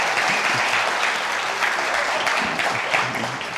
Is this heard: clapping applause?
yes